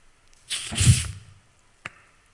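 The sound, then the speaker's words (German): A water bottle is twisted open, releasing a short rushing hiss of escaping air with a soft thump, followed by a single sharp click from the cap. “Ich mag dieses Geräusch, wenn man eine Wasserflasche aufmacht.”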